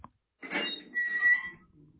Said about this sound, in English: I hate that metal door creaky sound that's in everything.